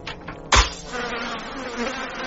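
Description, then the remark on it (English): Thousands of flies in a house buzz together in a steady, droning hum of overlapping wingbeats, broken early by one sharp thump before the swarm's buzz carries on evenly. “there's a bunch of flies in my house”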